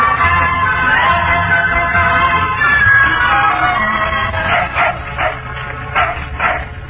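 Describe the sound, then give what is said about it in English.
An old hound dog named Pal, adopted from the Alamo shelter and out on a walk in Washington Park, whines in a drawn-out, high, wavering whimper, then breaks into a run of about five quick, sharp barks at a steady rhythm, with no talking. “Hey, you're awful cat and sassy for an old hound.”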